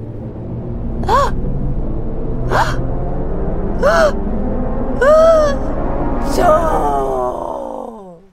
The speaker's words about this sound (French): L'ours enrhumé part d'un énorme éternuement.